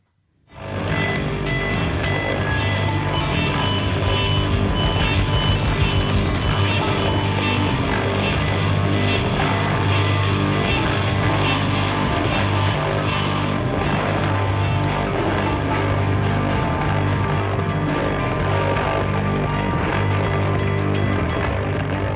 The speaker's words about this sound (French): Voilà, vous entendez les Larsen passer à la moulinette de ribambelles de pédales d'effet, les micros de guitare maltraités par des baguettes de batterie, les cordes lacérées par un archer, c'est ça.